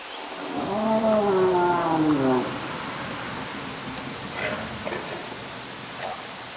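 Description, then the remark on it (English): Whale calls recorded underwater by hydrophones in quiet seas off Alaska: a long, wavering harmonic moan for about two seconds over steady hiss, followed by a few faint, short calls. “they got hydrophones into the water. Michelle is now set to record an entire summer of whale sounds in strangely quiet seas”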